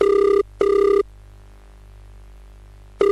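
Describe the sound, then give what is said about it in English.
A telephone ringback tone sounds on an outgoing phone call: a steady double ring, a pause of about two seconds, then the next ring beginning, with no voices. “Let me phone Junaid before I leave.”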